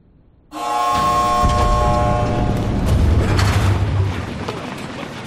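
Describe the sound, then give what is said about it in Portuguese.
A heavy door grinds open as guards approach, with a loud, sustained mechanical groan, a tonal creak at first giving way to a deep rumbling roll that fades after about four seconds. “Uma porta se abre e os guardas se aproximam.”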